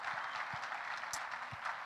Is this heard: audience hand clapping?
yes